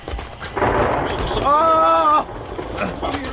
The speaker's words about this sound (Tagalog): Tinamaan ang kidlat ng isa nating kasama!